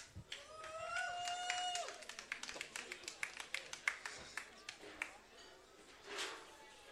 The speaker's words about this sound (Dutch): Dames en heren, graag een applaus voor Ambi Bjorn.